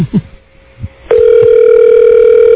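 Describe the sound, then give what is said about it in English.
A telephone call being placed to Hello Gorgeous in San Francisco: a faint tone with a few soft clicks, then a loud, steady electronic phone tone that holds unbroken to the end. No one speaks. “Calling Hello Gorgeous now in San Francisco.”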